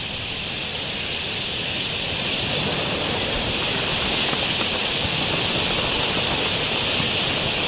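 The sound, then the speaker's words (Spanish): A huge flock of thousands of parakeets swirls in flight as they descend over the desert to drink at a remote waterhole, their massed wings and calls blending into a steady, dense roar like heavy rain, holding at an even, loud level throughout without any voices. “Formando un enorme remolino, miles de periquitos en vuelo.”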